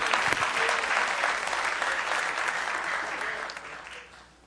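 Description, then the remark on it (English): A church audience applauds the singers steadily, dense clapping that holds for several seconds before thinning and fading out near the end. “Give our singers another hand as you're seated.”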